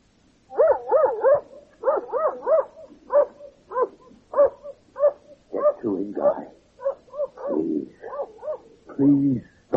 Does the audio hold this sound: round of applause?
no